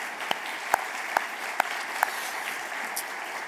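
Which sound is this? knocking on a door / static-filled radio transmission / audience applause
audience applause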